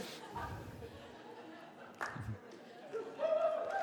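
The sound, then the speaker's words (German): A scattered patter of audience clapping mixed with murmured chatter and a few chuckles, fairly soft overall, with a voice rising over the crowd near the end. “Naja, dafür braucht ihr nicht klatschen, ganz ehrlich.”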